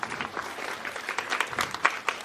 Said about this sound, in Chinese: 让我们热情的掌声欢迎风神宝宝儿童剧团，掌声欢迎